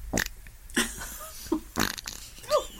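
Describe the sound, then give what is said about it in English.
A voice imitates a fart with a series of wet, sputtering raspberry bursts, five or so spread over a few seconds, loud, with no talking between them. “Do you fart?”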